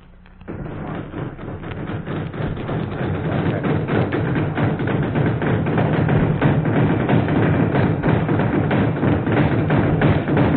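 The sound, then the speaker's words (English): Dense, continuous hammering on wood as wooden arched Pacific huts for Army use are built in Seattle, Washington, many blows overlapping in a busy irregular clatter of thuds and taps that holds steady and loud for the whole stretch, with no voices. “And this is Warren Hull, and all that hammering you heard is only a small part of the tremendous activity that goes into the building of a Pacific hut.”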